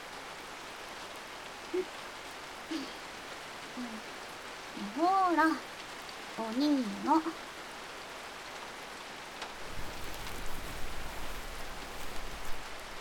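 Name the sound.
rain falling on surfaces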